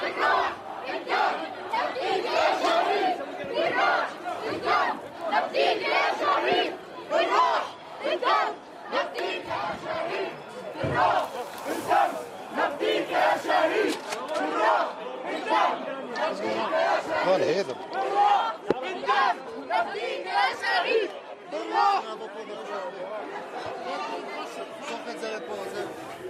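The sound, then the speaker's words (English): A large crowd at the funeral of journalist Shireen Abu Akleh, pushed back by Israeli forces as the hearse reaches the church, chants in loud, rhythmic unison "By our blood and our soul", many voices rising and falling together in repeated shouted phrases for the full length, with no pauses of quiet. “They were chanting as we heard the crowd who were pushed back by Israeli forces, not allowed to follow the coffin as far as the church.”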